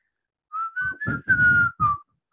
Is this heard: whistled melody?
yes